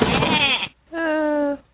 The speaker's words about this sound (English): Happy anniversary, honey. Oh, you shouldn't have. Wait, is that a goat? Goats are a great gift, but maybe not for her.